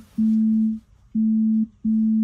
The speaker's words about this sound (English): Did I do that? No, I'm getting a phone call from the future.